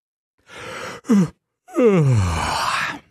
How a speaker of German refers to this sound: Na, musstet ihr vielleicht auch gerade gähnen? Gähnen ist nämlich ansteckend. Das habt ihr bestimmt schon mal gemerkt, oder?